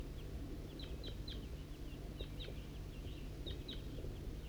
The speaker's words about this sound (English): Recording, it's 8:21 and a wild flock of crossbills is coming from the east. Right, it could be just one bird.